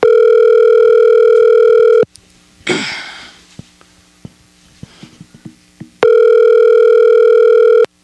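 A steady, loud telephone dial tone plays for about two seconds while calling someone back after a disconnected phone call, breaks off into a brief rustle and faint clicks, then returns just as strong for another two seconds.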